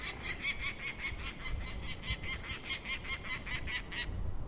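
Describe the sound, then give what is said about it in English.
A male peregrine falcon gives a rapid, steady series of harsh, repeated cacking calls at a raven, about a dozen in a row, over a low outdoor rumble, with no one talking. “That's a male yelling at the raven.”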